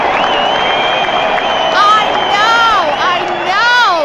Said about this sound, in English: I know this applause is tacky, but I love it. If it's tacky, I usually love it anyway.